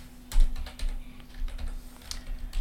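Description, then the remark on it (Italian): Someone types an online search on a computer keyboard that is not working properly, with quick, irregular clacks of keys and short pauses between bursts, over a faint steady electrical hum. “la tastiera che non va.”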